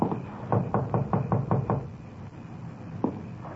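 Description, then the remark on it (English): Police officers knock on the front door of a house with a 1938 Chevrolet truck parked in the driveway: a quick, steady run of about eight firm knocks, evenly spaced, followed by a pause and then one more lone knock, with no voices. “Frank and I left our unit and walked up to the front door.”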